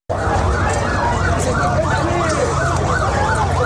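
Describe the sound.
An emergency vehicle siren wails in quick, repeating up-and-down sweeps, loud and steady throughout, over a dense rumble of street noise and indistinct voices, at the scene of an Israeli air strike on a refugee camp in Rafah, southern Gaza Strip, where fire trucks and rescuers carry badly injured people from collapsed buildings.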